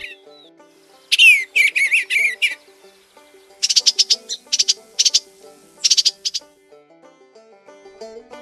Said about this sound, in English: The bluebird is related to the robin. They're both thrushes.